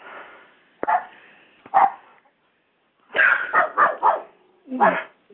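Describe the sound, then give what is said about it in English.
A dog barks repeatedly, a couple of sharp barks followed by a quick burst of four or five, moderately loud, with no one speaking. “with the dog in the background, I have to change it.”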